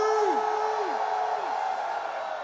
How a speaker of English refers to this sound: I want a real scream from everybody in this damn place. Give me a scream!